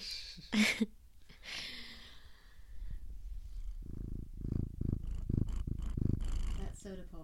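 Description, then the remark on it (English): A cat named Soda Pop purrs steadily in a low, rumbling rhythm, punctuated by a few quick, breathy sniffs and snuffles as it sniffs right up against the microphone. “Soda pop, sniffing the mic.”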